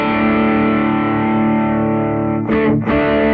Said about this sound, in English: There's very little drive on the California, so the main drive is all coming from the US Dream. And I think this is just fucking lovely. This is a really nice distortion.